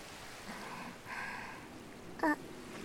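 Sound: ocean waves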